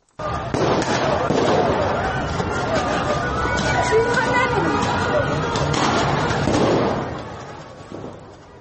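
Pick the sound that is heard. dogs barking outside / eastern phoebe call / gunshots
gunshots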